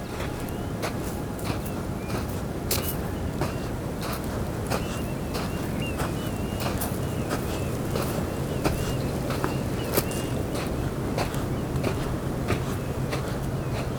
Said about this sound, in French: mes pas crissent sur le sable.